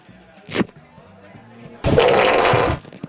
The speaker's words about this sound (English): I got a piece of Velcro.